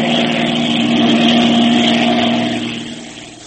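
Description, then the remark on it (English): The engine of a circling plane with a tampered, crippled undercarriage drones loud and steady with a strong low tone, easing off slightly toward the end as if the plane is banking away. “Will our friends crash when the pilot tries to land his crippled plane?”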